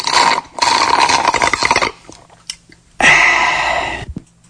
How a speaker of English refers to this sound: And the last one, drinking with a straw.